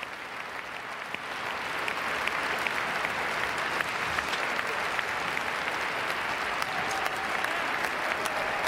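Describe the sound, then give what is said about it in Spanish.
A standing ovation for an announcement that a national emergency will be declared at the southern border with Mexico: dense, sustained applause from a large crowd that swells in the first two seconds, then holds steady and loud, with scattered cheers rising above the clapping. “Ese es el aplauso por el anuncio de que va a decretar la emergencia en la frontera sur, la de México.”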